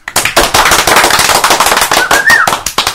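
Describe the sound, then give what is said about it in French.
An audience at a concert applauds loudly and steadily for about three seconds to vote for a third song, a dense wash of rapid claps, with a short rising whistle cutting through near the end. “Vous voulez un troisième titre? On le fait à l'applaudimètre.”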